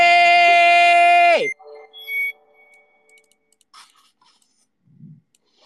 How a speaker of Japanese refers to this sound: ガチ切れそう。このね、Steam の初めて起動するゲームの時のこの爆音ね、こう爆音流れるやつ、身がぶっ壊れるやつね。